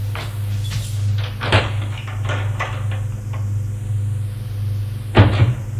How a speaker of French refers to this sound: Regarde autour de lui. Ouvre l'armoire.